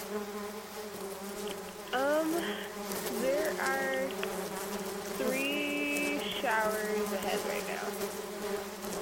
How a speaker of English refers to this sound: my truck is full of bees. They're not angry. Why are they full of bees? I'd have no idea. I parked it overnight and then I came out to it the next morning and it's full of bees.